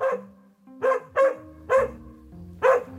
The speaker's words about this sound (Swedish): När vi går in på den oplogade tomten möts vi av en skällande hund som springer runt i en lina.